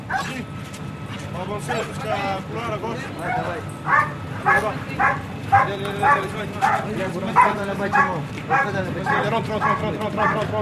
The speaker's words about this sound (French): C'est près du village de Deir Kifa que se trouve la base militaire de l'armée française. Ici, on s'entraîne à maîtriser une cible avec des chiens d'intervention libanais.